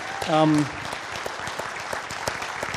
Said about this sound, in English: Yes, give the Lord one more round of applause.